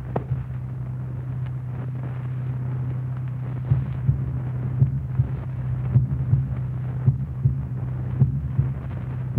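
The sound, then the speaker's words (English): A goat's steady heartbeat, heard as through a stethoscope, thumps in a quick, regular rhythm over a constant low hum. The beats are faint at first, then grow more distinct. “Keep track of those heartbeats. Count them for a minute.”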